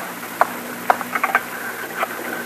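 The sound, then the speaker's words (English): A telephone being dialed to call headquarters: a handful of small mechanical clicks and ticks spread irregularly over a couple of seconds, over a faint steady hum, with no voices. “Now, I'm calling headquarters. Well, I'm getting them on the phone.”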